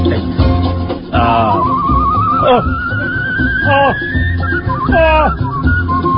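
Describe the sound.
A person whistles a long, thin, wavering note that slowly rises in pitch, mimicking a whistling newborn, while voiced sounds and murmuring continue underneath and break in around it.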